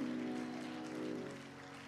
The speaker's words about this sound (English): Let's give applause to God on what He's going to do and what He's going to continue to do.